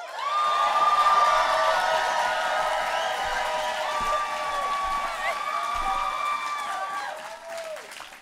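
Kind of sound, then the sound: crowd, audience cheering and applauding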